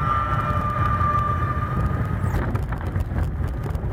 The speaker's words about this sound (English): If you heard that, you would be terrified until you realized that it is a train moving along with wheels that are stuck.